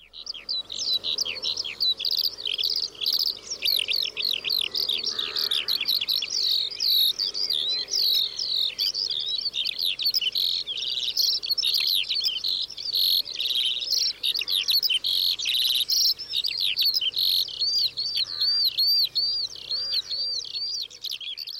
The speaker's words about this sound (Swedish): Men sånglärkan är ju den allra vanligaste. Och den har ju verkligen ett sommarljud. Ja. Påminner om sommarängar. Verkligen.